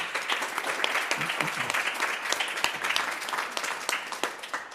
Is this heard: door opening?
no